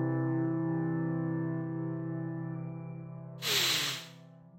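Heavy breathing from a speaker after a Bible passage is read aloud: a steady, low, humming tone holds for over three seconds, then a single loud, breathy rush of air bursts out and fades within about half a second. No talking.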